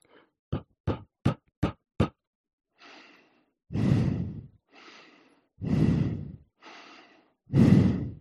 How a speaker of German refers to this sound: Ich habe jetzt hier wirklich mal richtig stark ein- und ausgeatmet und natürlich hört man es.